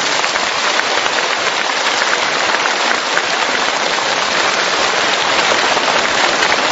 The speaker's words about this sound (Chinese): 今天这么多法师前来助缘，台长用大家的掌声来替我感恩他们。